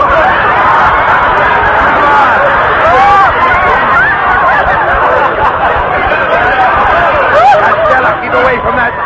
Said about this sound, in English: I'll say I am, and what a madhouse. Oh, crowds.